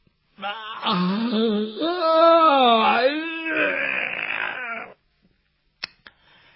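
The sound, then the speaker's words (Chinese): A man's voice imitates the character Jin Gongzi yawning and stretching in his room at daybreak: a long, drawn-out yawn rising and falling in pitch with a strained, stretching groan for about four and a half seconds, followed by a couple of faint clicks. “鸡叫三遍，天亮以后，听见那金公子在那屋里边打哈欠伸懒腰。”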